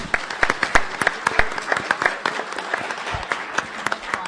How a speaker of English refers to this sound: And I don't think we've had a chance to, in person anyway, give her some applause. So let's hear it for her.